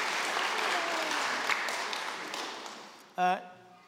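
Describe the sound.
An audience applauds, a dense, steady clatter of many hands that gradually thins out before a short burst of a voice cuts in near the end.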